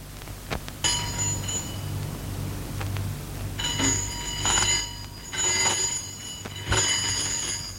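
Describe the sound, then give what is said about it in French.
An apartment intercom buzzer rings as a taxi arrives for a woman, several bright, metallic bursts, about four rings spaced a second or so apart, loud over a low steady hum, with no one speaking. “La sonnerie de l'interphone a retenti.”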